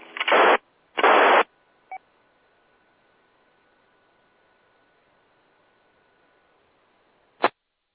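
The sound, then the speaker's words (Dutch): Two loud bursts of radio static, then a quiet open channel with only faint hiss and a thin steady whistle, a carrier signal with no modulation and no voice coming through, ending with a sharp click. “Nou, stond wel een signaaltje, maar ik had geen modulatie.”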